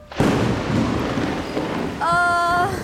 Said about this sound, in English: It's just a little rain.